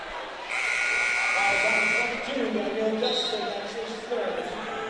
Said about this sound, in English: And now we'll get a whistle. Another illegal screen. Call? No, screen, okay.